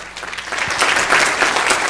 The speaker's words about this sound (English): You can never get enough applause, brother, for what God's doing.